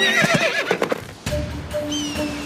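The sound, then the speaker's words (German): A horse called Kleiner Donner, being ridden up a narrow path between rocks, gives a loud, shrill whinny with wavering high tones, then breaks off. Soft clopping hoofbeats and a low rumble carry on underneath, with faint steady high tones toward the end. “Wenn wir da lang reiten, kommen wir direkt zum 6. Feuer.”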